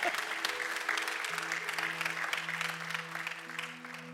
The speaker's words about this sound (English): Yeah, I can hear the claps getting less and less. I know. I understand. I wouldn't be clapping too if I was there.